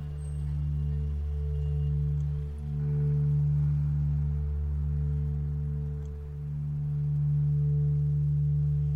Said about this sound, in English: Taut Line is a multi-channel audio installation that follows six individual sine waves extending, lagging, alternating, and interlocking towards a complete chord. They then separate back out into individual strands.